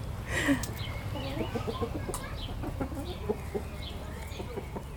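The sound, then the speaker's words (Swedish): A Swedish Blomsterhöns rooster and mixed-breed hens cluck softly in a yard, a scattering of short, overlapping calls from several birds, with steady low background noise and no talking. “Tuppen är ju, det vill säga för blomsterhöns, blomstertupp.”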